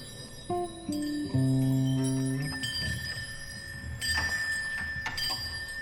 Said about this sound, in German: Es beginnt mit einem großen Glockenvorspiel.